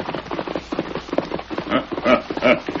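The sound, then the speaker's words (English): Galloping hoofbeats of the horse Silver and a colt running alongside him up the valley and back, in a Lone Ranger radio drama: a rapid, uneven drumming of dull thuds that keeps up throughout and grows louder and more forceful toward the end, with no voices. “Maskman, just take a gallop up the valley and back. Let's see that colt run alongside Silver.”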